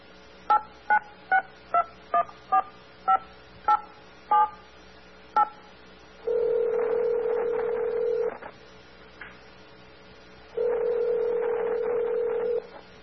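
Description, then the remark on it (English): About eleven quick touch-tone keypad beeps dial the presidential toll-free number at an uneven pace, followed by two long, steady ringing tones with a pause between them, clear, with no voices. “Simply pick up the phone and dial the presidential toll-free number.”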